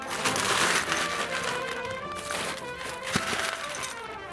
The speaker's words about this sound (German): So klingt es, wenn eine ganze Schaufel Bonbons in einer Tüte landet. Auf der Wiesn gibt es sogar einen Stand, der sie selber herstellt.